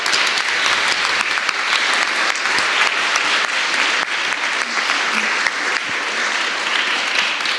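Sustained audience applause, a dense crackle of many hands clapping at a steady, loud level throughout, with no voices standing out above it.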